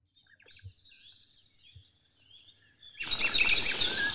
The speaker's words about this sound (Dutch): Ik kom in een gebied dat zo klinkt. Vogels, ganzen, alles wat je maar kan horen. En denk je van, wat is hier bijzonder aan? Jaren geleden, als je in dit gebied kwam, dan hoorde je dit niet.